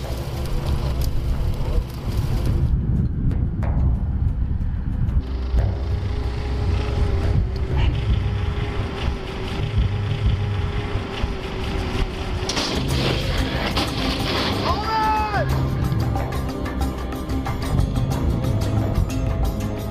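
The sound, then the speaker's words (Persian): A car engine roars steadily and loudly throughout, with a brief rising whine partway through as the car drives up a jump ramp, over a dense rumbling, noisy background; the car lands about 5 metres ahead and gives a little flame from the back. “خب کجا این ماشین همین میره رو رم شروع میکنه برگشتن.”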